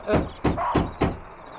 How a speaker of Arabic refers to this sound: من الطارق في هجيع الليل؟ من الطارق في هجيع الليل؟